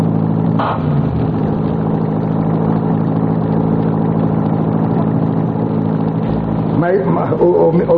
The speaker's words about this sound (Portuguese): Assim podemos ir no carro esporte do menino Murilo, né?